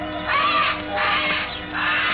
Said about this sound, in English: Old man Kelso had a huge aviary at one corner of the house. Something had disturbed the birds.